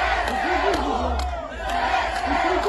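Residents of Kherson City in southern Ukraine celebrate in the streets after Ukraine's military liberated the city, a dense roar of overlapping voices with rising shouts and cheers that stays loud and steady throughout, briefly dipping midway.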